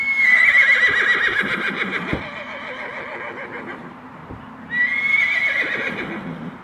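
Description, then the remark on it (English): A horse whinnies loudly and shrilly, then whinnies again a few seconds later, with hooves clip-clopping steadily underneath throughout. No one speaks. “Giddy up. Giddy up.”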